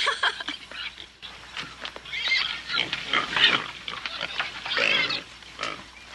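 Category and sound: animal, pigs oinking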